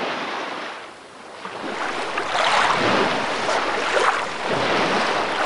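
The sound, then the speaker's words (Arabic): Sea waves roll in at a crowded beach full of people, with a steady, hissing roar that swells and surges in the middle, with some wind noise mixed in and no voices. “شوف الناس كيف زي النمل على البحر.”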